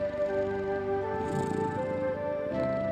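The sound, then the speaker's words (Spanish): A low, steady cat purr rumbles continuously over a sustained tonal musical drone, fairly even in loudness for the whole few seconds, with no talking. “Mírale ronroneando y frotándose en tus piernas.”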